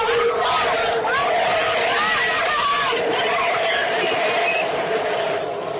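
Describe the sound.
A large outdoor crowd at Bikes for Life's holiday bike giveaway raffle on 7th Street in West Oakland cheers and shouts steadily, a loud, dense wall of voices with rising whoops and yells; the West Oakland BART train roars by, heard above the crowd.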